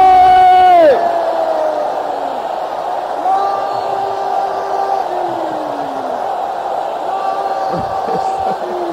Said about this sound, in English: You know, from today onward now, there are some people here, when they wake up in the morning, the first thing that will come out of their mouth is glory. Let me hear you shout glory!